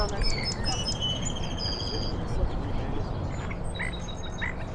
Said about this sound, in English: Song sparrows are all over the country. They don't sound the same. There are regional accents for birds, which I know sounds kind of crazy, but it's true. But that cadence is very similar all over the country.